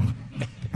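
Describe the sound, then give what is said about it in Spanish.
A big cat roars, leopard-like, in a few deep, rasping pulses, fairly loud, with no voices over it. “¿Es un leopardo? Eso no es un gato.”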